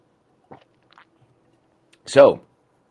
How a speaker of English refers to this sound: I'm gonna take a sip of water already.